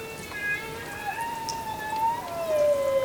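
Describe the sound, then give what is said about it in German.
A steady, dense patter of raindrops hitting a water surface, heard as a continuous hissing wash with faint, thin tonal whines drifting underneath, moderately loud and without any voices. “Regentropfen auf der Wasseroberfläche sind für die Tiere bis in die Tiefsee hörbar.”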